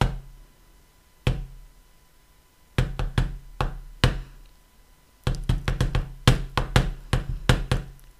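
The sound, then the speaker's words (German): Sharp, hollow pops knock against the lid of a pan on a small stove as popcorn is made, a single one at first, then a few scattered hits, then a quick irregular flurry of popcorn bursting near the end. No voices. “Ja, sie steht an ihrem kleinen Herd und in der Pfanne knallt etwas die ganze Zeit gegen den Deckel.”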